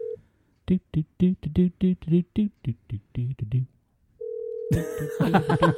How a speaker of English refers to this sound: No, I'm just gonna listen to the phone ring.